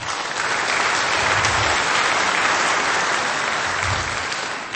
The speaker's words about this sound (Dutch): Ik zou zeggen, geef ze nog even een bijzonder applaus.